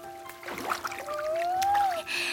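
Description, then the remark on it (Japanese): Water sloshes and trickles as feet are dipped into a flowing river of clear, cold water, with a steady background murmur of moving water and a faint high tone running underneath. “ねえ、川に足つけてみよう。”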